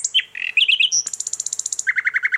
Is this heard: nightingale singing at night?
yes